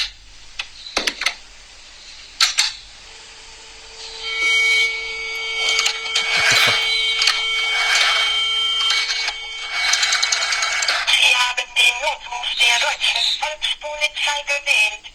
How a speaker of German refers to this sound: Dieser Podcast wird nämlich präsentiert von dem guten alten Telefon mit der Wählscheibe.